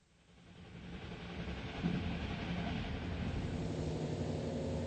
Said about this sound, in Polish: Pociąg wjeżdża właśnie do Hanoweru.